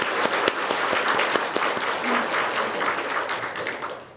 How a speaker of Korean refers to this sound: 우리 서로를 위해서 우리 격려와 축복의 박수하라 하겠습니다.